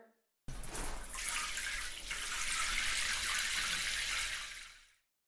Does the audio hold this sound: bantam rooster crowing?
no